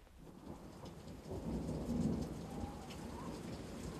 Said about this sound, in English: I'm an old man, and I've seen lots of Christmases come and go, and they're never white, and it's raining again and again and again and again.